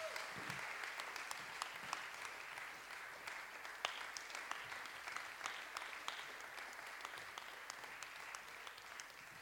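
Sustained applause from an audience, a dense steady patter of many hands clapping at an even loudness for the whole stretch, with no voices standing out.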